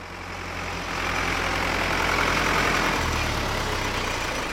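A tractor engine runs steadily, a low throbbing rumble with a broad mechanical roar that stays loud and even throughout, with no voices. The tractor is used to reach the lakeside restaurant Graf Isang, which is surrounded by floodwater.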